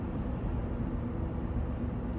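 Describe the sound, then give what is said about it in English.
A steady, low rumble of planes flying overhead, continuous, with no voices and no breaks in the droning noise. “And why do I hear planes flying overhead?”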